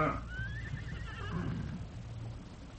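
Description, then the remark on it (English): A horse whinnies once, a high wavering neigh that slides downward and trails off, with low rumbling background noise underneath, as horses are watered at a narrow stream running along a ridge. “The Lone Ranger and Tonto stopped to water their horses at the narrow stream that ran along the ridge where they had been riding.”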